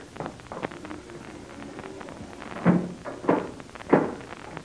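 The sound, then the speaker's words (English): A door is shut and locked, with a few faint knocks followed by three heavy, evenly spaced thunks of bolts or latch, with no voices. “Captain Blaze, you will close and lock that door as it was before.”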